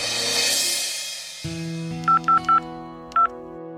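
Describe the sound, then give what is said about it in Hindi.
Four short, sharp telephone keypad tones beep in an uneven rhythm, three close together then one after a pause, over a steady low hum following a brief noisy rush, as someone dials a travel agent, Ganesh Travels, by phone. “मैंने अपने travel agent को फोन किया।”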